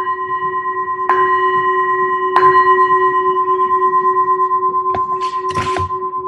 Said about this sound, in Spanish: Voy a tocar la campana para ver si escuchan los demás que no veo las pantallas.